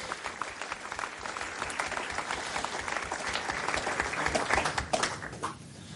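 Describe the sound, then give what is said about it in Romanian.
A crowd applauds steadily, a dense wash of many hands clapping at fairly even volume for several seconds before tapering off near the end, with no speech over it. “Și iată că vin aplauze, merită aplauze”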